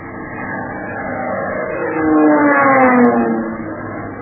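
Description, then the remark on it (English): An airplane diving at 12 o'clock roars steadily, its engine swelling louder midway as its droning pitch climbs and then eases back down, with no voices over it. “Plane diving at 12 o'clock.”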